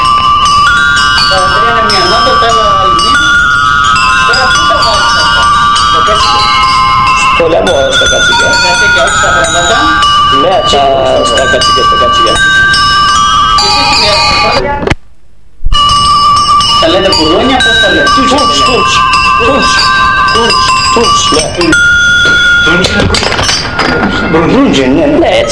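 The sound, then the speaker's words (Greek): Several bells of different pitches, the large one rung first, clang and jingle together in a dense, continuous metallic ringing, with voices murmuring underneath and a brief silent break about halfway through. “Αυτά από πού τα παίρνετε, τα κουδούνια?”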